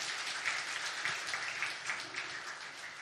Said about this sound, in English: Let's give the Lord a clap of praise for that.